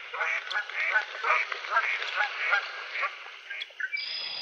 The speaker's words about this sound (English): But it's a beautiful area with cattails. There are a lot of cottonwoods that now in October are turning yellow. We just are watching a big flock of geese.